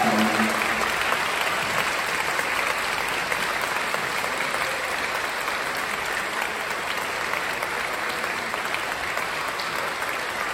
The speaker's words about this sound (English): Can we please give all our performers a huge round of applause? They've been amazing.